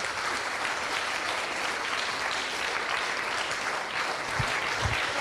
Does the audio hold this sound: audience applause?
yes